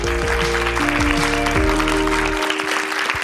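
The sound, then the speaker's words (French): An audience claps steadily and densely for about three seconds to welcome a guest, while a low, sustained musical chord plays beneath, the music cutting out near the end and leaving the applause alone. “Bienvenue, vous pouvez l'applaudir.”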